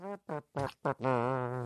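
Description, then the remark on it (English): A voice imitating a trumpet: four short, buzzy blasts followed by one long held note with a slight waver, loud and on its own with no talking. “we haven't heard a mouth trumpet in a while”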